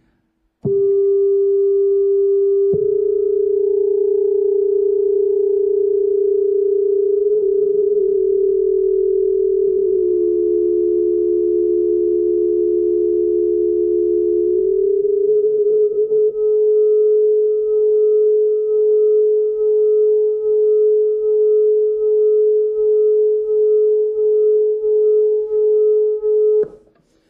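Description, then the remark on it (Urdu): A steady electronic sine tone hums for almost half a minute while a second, nearly matching frequency slides toward it; as the two frequencies meet, a beat frequency emerges and the sound swells and fades in slow, regular beats near the end. “یہاں پر آپ نے یہ دیکھا کہ جب یہ دو فریکوینسیز ایک دوسرے کے قریب پہنچ گئی تھیں تو بیٹ فریکوینسی بہت آسانی سے آپ کو سننے میں آئی، ایک سلو ماڈیولیشن ہے.”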